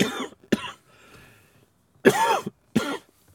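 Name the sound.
coughing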